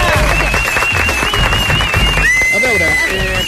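An audience applauds with dense, steady clapping that fills the whole stretch at a loud, even level, while a thin high tone glides along above the clatter.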